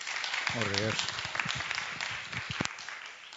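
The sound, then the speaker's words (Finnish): A crowd applauds steadily to welcome a speaker, a dense wash of many hands clapping at once, with a brief voice calling out near the start amid the clapping. “Annetaan aplodit”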